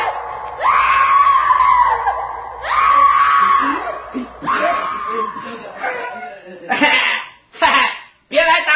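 A voice lets out three long, loud, anguished screams in quick succession, followed by shorter harsh cries and yelps, piercing with almost no pause between them, interrupting Jesus as he preaches in a synagogue.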